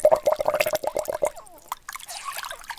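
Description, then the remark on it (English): Wet splashing and dripping, a quick series of liquid drips and squishes as water is scooped and patted onto a little girl's face to scrub it during her bath, fading into a softer hiss of trickling water. “Her face could use a scrubbing. This looks like good water here.”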